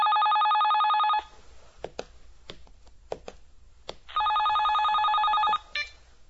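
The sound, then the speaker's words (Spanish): A telephone rings in two long electronic bursts, a steady high-pitched trill, separated by a pause filled with soft clicks and knocks, then a few brief clacks at the end. “¿Quién llama?”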